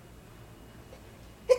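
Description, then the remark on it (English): A single short, sharp sneeze bursts out near the end after quiet room tone, sudden, with no talking around it. “Bless you.”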